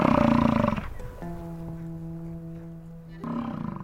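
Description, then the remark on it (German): A deep, rough bellowing grunt from a European bison, loud, followed after a pause by a steady humming tone and then another gruff bellow. “Integre Ökosysteme, neue Wildnis, Safari in Europa, Wisente beim Grasen beobachten.”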